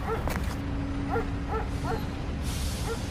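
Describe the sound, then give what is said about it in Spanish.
A dog crossing the street gives four or five short, high yipping barks at a steady pace over a constant low rumbling background. No one speaks. “Ve un perro cruzando la calle.”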